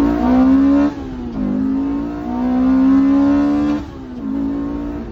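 A four-cylinder car engine revs hard toward redline, the tachometer pegged for the last 500 RPM or so before the rev limiter, dipping briefly between climbs in a loud, buzzing wail with no voices present.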